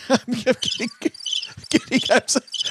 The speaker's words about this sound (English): There's real crickets now, thanks to OG.